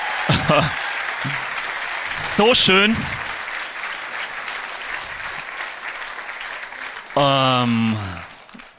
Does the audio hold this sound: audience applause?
yes